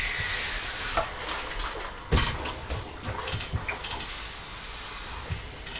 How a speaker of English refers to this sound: Mummy ironing her dress. Can you hear the iron? It's going pshh.